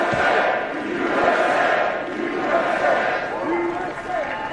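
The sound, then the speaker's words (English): A large standing crowd at Alabama's commencement roars and cheers with steady applause mixed in, a dense, loud wash of noise holding for several seconds with individual shouting voices rising above it. “Huge applause.”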